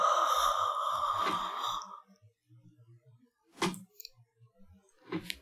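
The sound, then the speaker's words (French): A long, breathy, deliberately loud yawning exhale after a breath in, with a voiced groan, lasting about two seconds, followed by near silence broken by a couple of short sharp breaths or clicks. “Et puis, après, on va bâiller, on va expulser cet air, on va expirer cet air en bâillant bruyamment.”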